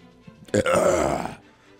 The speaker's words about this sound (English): There's a burp and a growl at the same time.